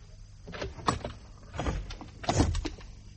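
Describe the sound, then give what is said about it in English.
A stiff, faulty door at the end of an upstairs landing is forced open in several grinding, scraping pushes, each a rough burst of creaking noise, the last one loudest, with no voices. “You want to get that door fixed?”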